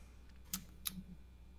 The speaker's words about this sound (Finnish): Kyllä, kuuluuko mun äänet? No näppäimistö äänet kuuluu ja nyt kuuluu puheäänikin. Nyt kuuluu.